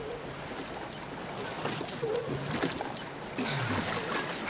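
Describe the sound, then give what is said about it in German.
Oars splash and dip into water at an unhurried pace as a boat is rowed back from a rocky island after a day of bathing, with gentle lapping and trickling between strokes, moderately loud, no voices present. “Gerade kamen sie mit ihrem Boot von einem herrlichen Badetag auf der Felseninsel zurück.”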